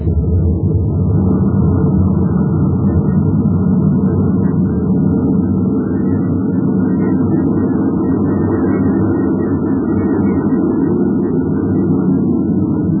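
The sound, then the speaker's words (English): A steady, loud low roar of a spaceship's rocket engines firing, a dense rumbling drone that holds without pause for the whole stretch, with no voices over it. “Now to fire rockets and get away from this uranium bombardment.”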